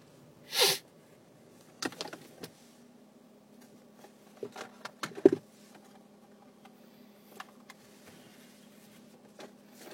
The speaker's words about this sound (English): Like, I feel like I'm going to sneeze. Like, it's going to happen. Just not right this second.